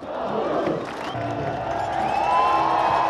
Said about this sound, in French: Voilà, Magnus, la foule l'applaudissait comme s'il avait ou revêtu le maillot jaune ou gagné l'étape. Premier donc maillot à poids de ce Tour de France.